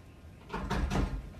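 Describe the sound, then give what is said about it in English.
Three quick, dull knocks on a classroom door, recorded on a student's phone during a school shooting, land close together in the middle of a short, quiet stretch, moderately loud, with no one speaking. “So they're all in the classroom, and there's a knock at the door.”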